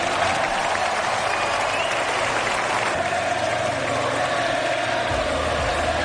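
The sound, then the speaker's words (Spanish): A stadium crowd chants "Sergio" for former Mallorca goalkeeper Sergio Rico, a loud, dense and steady roar of many voices that holds throughout without a break, with a low rumble building underneath toward the end. “Y los gritos de Sergio, Sergio, Sergio, mandando toda esa energía para el exportero del Mallorca,”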